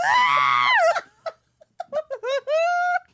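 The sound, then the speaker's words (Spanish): A shrill, strained scream from a viral video being played rings out loudly for about a second, followed by a few short voiced yelps and then a second, wavering high-pitched cry, slightly tinny. “Estoy obsesionada con el grito del cacahuate.”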